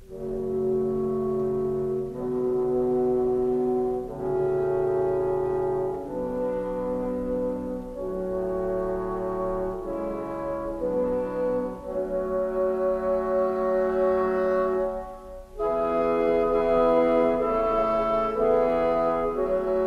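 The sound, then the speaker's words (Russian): The opening of Tchaikovsky's Romeo and Juliet fantasy overture: a slow, solemn orchestral chorale imitating an old hymn, sustained low woodwind chords moving step by step in long, even phrases, steady and moderately loud, with no voices. “Как, например, в самом начале увертюры фантазии Чайковского «Ромео и Джульетты». Это имитация старинного хорала, в общем-то, уже практически модальность.”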